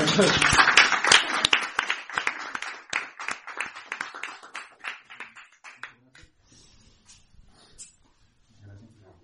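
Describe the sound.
An audience bursts into loud, dense applause for the winner of a short story prize, gradually thinning into scattered claps and fading out over several seconds, with a few faint voices and a low murmur near the end.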